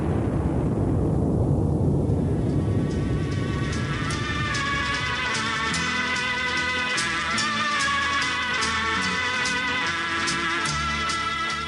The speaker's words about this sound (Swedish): Men försvann de verkligen allihop i den där explosionen?